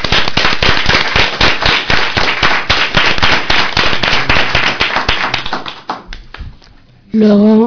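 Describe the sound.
An audience bursts into loud, dense applause with many overlapping claps that holds steady for about five seconds, then thins out and fades before a voice starts speaking at the very end.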